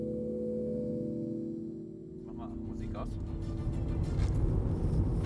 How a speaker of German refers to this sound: Wir sind im Auto unterwegs Richtung Brandenburger Tor.